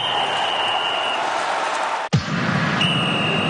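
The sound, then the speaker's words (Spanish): A referee's whistle in the jingle of COPE Almería's sports news holds a long, steady high-pitched blast over loud crowd noise, breaks off at a single dull thud, then sounds again. “Bueno, pues el silbato, ese silbato que hemos escuchado hace un instante en nuestra sintonía, va a sonar por última vez en esta Liga de Primera División, en el Powerhouse Stadium.”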